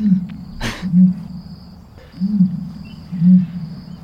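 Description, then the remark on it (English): An ostrich gives deep, low booming calls, three hollow hoots spaced about a second apart over a steady low rumble, with a brief breathy burst near the start. No one speaks. “It is an ostrich.”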